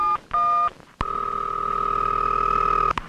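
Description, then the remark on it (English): Touch-tone phone dialing from the film Touchtone Phone Film: two short electronic beeps, then one long sustained tone held for about two seconds and cut off by a click. Clear, with no voices. “Demolition of a Wall, Circles of Confusion, or Touchtone Phone Film.”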